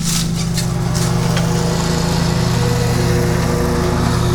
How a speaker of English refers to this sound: Number nine, boy, here comes the lawnmower. Maybe you can hear it. Oh, it's so loud. Let's record the lawnmower. Let's open the window and record the lawnmower.